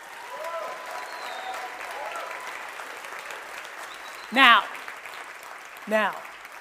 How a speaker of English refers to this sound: First, let's clap it up for these winners.